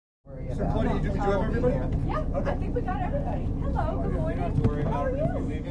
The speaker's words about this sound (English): It takes a little over an hour to get to Panakis Island by boat from Woods Hole. We skirt the western edge of the Elizabeth Island chain past Nashon, Pask, and Nashawena.